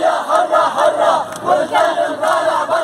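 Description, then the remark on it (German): A large crowd cheers and shouts continuously, many voices blending into a loud, surging roar with rhythmic swells, like chanting or celebratory yelling, at a street rally in solidarity with the Syrian revolution, people calling out "Mabruk". “Sie jubeln, lachen, weinen, tanzen, fallen sich in die Arme, rufen sich zu: Mabruk, Glückwunsch.”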